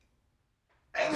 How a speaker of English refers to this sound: Bless you.